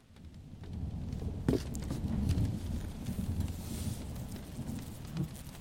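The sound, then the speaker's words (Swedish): Steady rain falls in a dense, continuous wash of noise, with a low rumble underneath and a few sharper taps and patters standing out now and then. No one speaks. “Det har börjat regna.”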